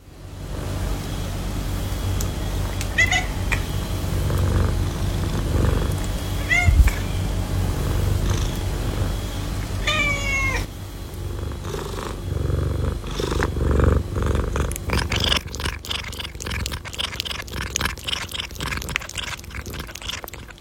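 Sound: cat purring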